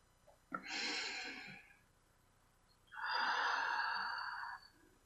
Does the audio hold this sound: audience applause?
no